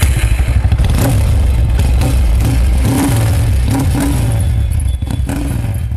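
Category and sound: vehicle, vehicle engine revving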